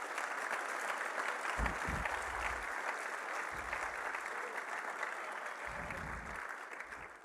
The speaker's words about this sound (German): Wenn ihr zu viel klatscht, geht mir das von meiner Zeit weg. Gell?